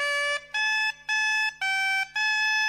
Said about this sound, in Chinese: 乐器呢叫邦巴管，是来自于法国的布列塔尼。邦巴管的声音就像是这样。